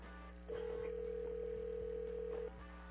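A phone line rings once as a radio host calls a raffle winner to tell him live on air that he has won: a steady two-second electronic ring tone heard through the earpiece, fairly loud over a faint low hum, with no one talking.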